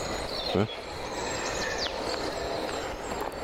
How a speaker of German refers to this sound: Ja. Wieder ein Zug nach Volksdorf,